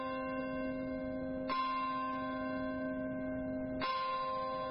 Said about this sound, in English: In the churchyard of St. Paul's Chapel in Lower Manhattan, the Bell of Hope began to toll at the moment when a hijacked plane hit the North Tower of the World Trade Center.